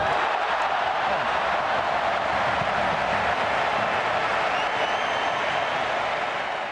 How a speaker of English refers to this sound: And let's hear the excitement of that crowd over that one. There they are, yep.